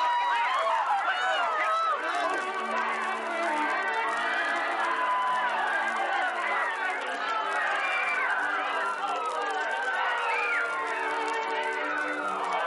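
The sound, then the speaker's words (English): A panicked crowd in an auditorium shouts and screams as smoke rolls from the back after a cry of fire, a dense, steady wall of overlapping high-pitched voices with running commotion underneath, loud throughout. “Panic spreads through the crowd like a plague as smoke begins to roll from the back of the auditorium.”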